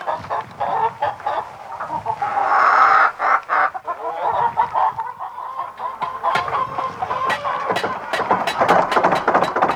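A flock of hens behind a church clucking busily, with overlapping short calls and a few drawn-out squawks forming a steady, chattering stream of sound with no one talking.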